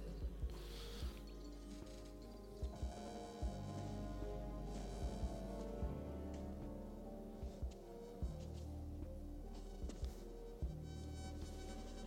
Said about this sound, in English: That buzzing sound, man.